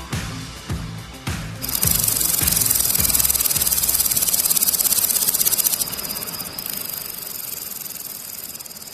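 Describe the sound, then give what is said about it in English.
Grasshoppers chirp in a dense, steady high-pitched buzz that starts after a couple of seconds of low rhythmic thumping and continues unbroken, with a thin sustained whine joining in later. “See, that's the ever so calming sound of grasshoppers.”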